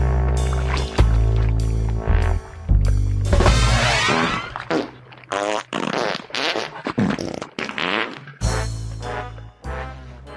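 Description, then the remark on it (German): Loud fart sound effects burst out repeatedly over a piece of music, replacing individual musical accents on the beats, some short and sputtering, others drawn out and rumbling. “einzelne musikalische Akzente, die werden dann einfach durch Furzgeräusche ersetzt in dem Moment.”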